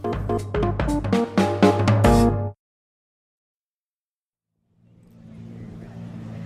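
A rocket cycle's engine, warmed up at the Fire and Water Racetrack and Arena, revs hard in rapid, pulsing bursts, cuts off abruptly into silence, then a low rumbling idle fades back in at moderate loudness.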